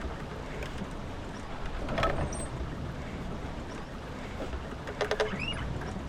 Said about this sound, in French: On a enlevé le moteur et c'est le vent qui nous permet de remonter le courant.